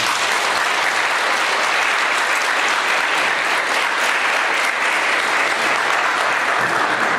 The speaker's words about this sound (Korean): 다시 한번 박수 부탁드립니다.